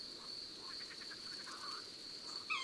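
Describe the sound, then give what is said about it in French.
A European robin's alarm ticking: a short series of soft, sharp tic notes from a small bird, over a steady high insect trill in a quiet night setting; the robin is uneasy because of a tawny owl. “Et tu entends les tic-tic du rouge-gorge ? Il est inquiet.”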